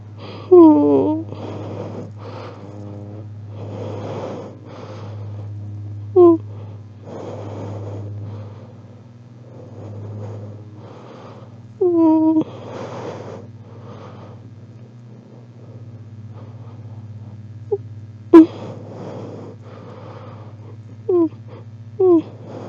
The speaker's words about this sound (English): Apologies for the heavy breathing, but I can't move the mic right now.